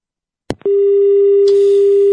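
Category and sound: signal or alarm, telephone busy tone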